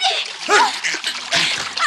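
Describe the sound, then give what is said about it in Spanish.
Churning sea water splashes in a continuous rush as two people sink into it after a shipwreck, with brief strained vocal cries or gasps rising through the splashing twice. “se hunden en el agua como atraídos por un inexpresable monstruo de las profundidades marinas.”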